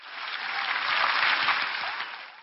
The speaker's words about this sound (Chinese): 大声鼓掌，各位，你们都冒着雨。